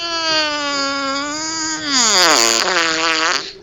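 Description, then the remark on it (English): A long, loud fart blasts straight into the microphone, a buzzing, reedy tone that holds steady, then wobbles and slides in pitch before sputtering out after a few seconds, with no talking over it. “There's your gas giant right there”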